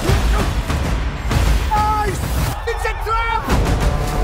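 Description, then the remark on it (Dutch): Heavy cannon fire booms in a dense, rumbling barrage, loud, with raised voices cutting through the roar between the blasts, from the trailer of a Napoleon film, in a battle scene on ice. “Dat stratege Napoleon bedenkt, ik lok ze hierheen en dan schiet de kanonnen en dan verdrink het allemaal.”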